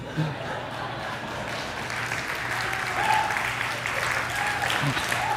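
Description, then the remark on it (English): Sustained applause from a sizable audience, a steady dense patter of many hands clapping at moderate loudness, with faint murmurs of voices mixed in throughout. “I will watch that on video and go, why did they applaud that?”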